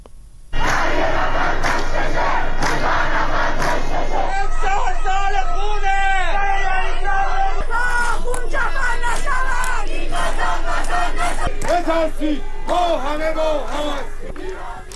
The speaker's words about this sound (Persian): در پی این هشدارها تعدادی از شهروندان در مقابل زندان رجای شهر تجمع کردند. در همین حال خبرها از ترافیک سنگین در خیابان‌های منتهی به زندان و تجمع شهروندان در مقابل زندان حکایت داشت که در حال شعار دادن بودند.